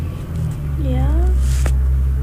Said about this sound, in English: Why are you so excited about a truck? No, it just sounded like really loud.